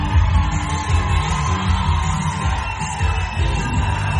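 A concert crowd cheers and yells continuously at the final show of an artist's tour for this year, in Erlangen: a dense, loud, steady roar of many voices with scattered whoops and shouts rising above it, and no music or single speaker standing out.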